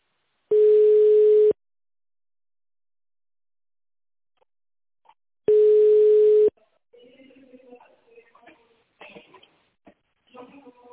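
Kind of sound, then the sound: signal or alarm, telephone ringing tone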